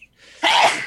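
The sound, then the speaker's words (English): A single sharp, loud sneeze, with a short breathy intake before the explosive burst; no talking alongside it. “Bless you.”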